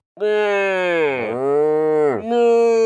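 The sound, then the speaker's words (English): A giraffe gives a long, loud, droning call like a low moo, holding steady for about three seconds with a sagging dip in pitch midway and a brief break before resuming. “Wait, do giraffes make noises? Yep, they go.”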